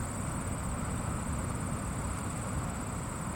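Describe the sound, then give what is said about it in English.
A steady, even roar of a waterfall at Edward MacDowell Lake in Keene, New Hampshire, near the Vermont border, recorded about 100 yards away on a fall afternoon, with a continuous high-pitched chirring of crickets running over it throughout. No voices. “I couldn't get too close to the waterfall area, so this recording is taken about 100 yards from the source.”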